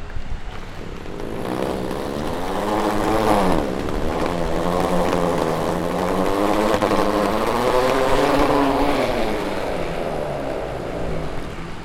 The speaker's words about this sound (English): it's a section of pavement which is laid out with squares of specially designed pavement, which is ridged. And the net effect is that when you wheel your suitcase along the Pavimento Pirelli, it sounds like the revving of a Formula One car. Listen.